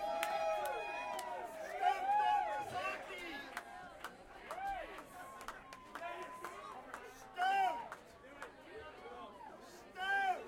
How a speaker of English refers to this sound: Hey, do we have time for one more? I knew it. You guys weren't gonna stop stomping your feet until you get kicked out.